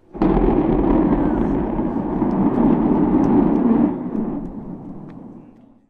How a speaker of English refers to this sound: Tesla owner Silicon Valley tweeted out a video of Starship's static fire test and said, can't wait for us to get to Mars. Orbital launch soon.